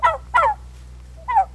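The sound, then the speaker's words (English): Three quick turkey gobbles from a sound effects record, fairly loud: two in fast succession, then a pause before a third, each a warbling burst over a low steady hum. “We would use sound effects records that included turkeys and included puppies.”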